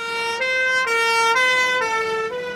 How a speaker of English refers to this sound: A fire engine rushes to a scene of fire. The firefighters who have completed their training rush to demonstrate their skills in extinguishing the fire.